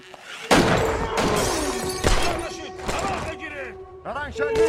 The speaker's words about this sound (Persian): تیر اندازی شد، تیر اندازی شد.